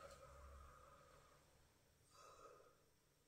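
A person yawns, a long breathy voiced exhale that trails off, followed by a shorter second breathy sigh. No one speaks.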